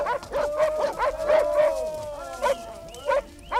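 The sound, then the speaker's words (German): A pack of hunting dogs yelps and whimpers as they go with hunters carrying a captured, bound old wolf on a horse to the meeting point; short barks tumble over one another in quick bursts with high, drawn-out whines between them. “Glück und Erschöpfung in den Mienen hoben die Jäger den alten Wolf, den sie gefangen und gefesselt hatten, auf ein Pferd und brachten ihn so von den winselnden Hunden begleitet zum Sammelplatz.”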